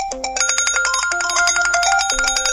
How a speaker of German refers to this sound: Als sie das Wasser erreichte, tönte aus Olivias und Alfies Weste ein Alarmkonzert.